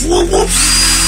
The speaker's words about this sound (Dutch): Ik heb er zo eentje gevonden. Dit is een gast die dubstep beats aan het nadoen is met een echte boormachine.